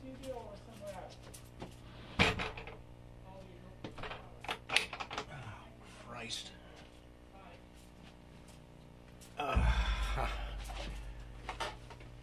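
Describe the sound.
A door is shut at the Free Radio Santa Cruz station with a sharp knock and latch clatter, amid scattered clicks and rattles, followed by a louder low rumbling burst near the end. A muffled voice sounds faintly in the background.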